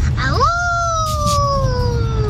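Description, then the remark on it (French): A young girl's voice imitates a wolf's howl: one long, high tone that swoops up quickly and then slowly glides down, held for about two seconds over a low, steady background rumble. “C'est un loup.”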